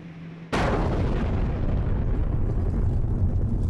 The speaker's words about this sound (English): there has just been a huge explosion here. We don't know what it means, but it just shook the whole place. Debris flew all over the place. I don't know what that explosion was. All I can tell you is that it was a huge blast.